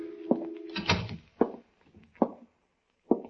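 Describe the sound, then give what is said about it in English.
The door of an insurance office in a swayback two-story building opens with a short creaking rattle, followed by three heavy, evenly spaced footsteps walking inside, fairly quiet, with no voices. “I opened the door and walked in.”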